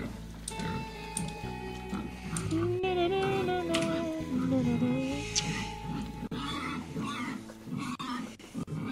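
pigs grunting and oinking

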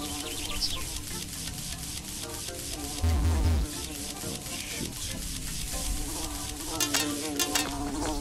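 wasps buzzing

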